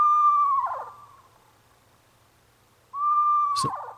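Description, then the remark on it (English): Two clear, tremulous whistled calls from a screech owl, each a sustained descending whinny that breaks into a wavering vibrato at the end, separated by a quiet pause with faint low hum. “It's that last part, that little like vibrato part at the end that is like, is that a horse? Yeah, it's very strange. That's a screech owl.”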